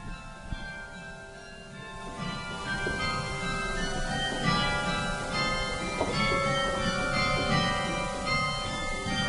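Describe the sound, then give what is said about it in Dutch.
The carillon bells of the Hervormde Kerk in the Dorpsstraat in Moordrecht, played by a carillonneur, ring out in a steady melody, overlapping struck tones with long shimmering decays layering into a dense, resonant wash. No voices are heard. “We luisteren nu naar een stukje geluid van de klokken”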